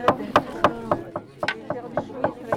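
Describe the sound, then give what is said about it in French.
A small hammer taps steadily on plant matter laid over fabric, pounding the plant's juice onto the cloth, about ten sharp, dull knocks in quick, fairly even succession, with a faint tonal hum underneath. “Mais c'est un marteau spécial, non?”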